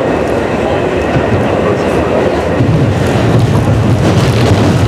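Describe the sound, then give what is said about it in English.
Steady low rumble and rattle of a moving train heard from inside the carriage, continuous and fairly loud, with the roar swelling slightly toward the end. “So we were on the train.”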